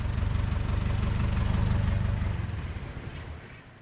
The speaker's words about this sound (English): Nothing to worry about. The engine just flooded. With water? Fuel,